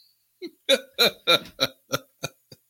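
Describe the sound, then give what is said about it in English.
A squeaky, sputtering fart: a quick run of about eight sharp, tonal bursts that start strong and taper off toward the end, on its own, with no talking. “that fart has a better chance of being president than RFK Jr. does”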